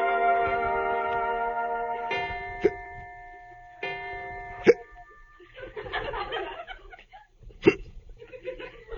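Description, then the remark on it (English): A man hiccups several times at uneven intervals, each a sharp, abrupt gulp. A sustained musical tone fades out at the start and some soft rustling fills the gaps. “do you have the hiccups?”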